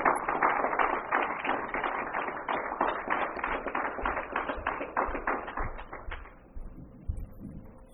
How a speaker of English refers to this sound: As I was saying yesterday, being the first speaker is never easy, so she really deserves that additional applause.